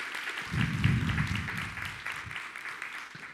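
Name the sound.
audience applause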